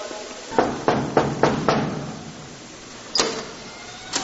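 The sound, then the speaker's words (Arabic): Five sharp knocks on the door of the house of Sheikh Dr. Sulaiman bin al-Sadiq al-Bayra in a quick, even rhythm, then a pause and a sixth knock, with a softer tap at the very end; no voices. “نتوجه الآن إلى بيت الشيخ ونطرق الباب ولنرى ما ينتظرنا بإذن الله عز وجل، فتابعونا.”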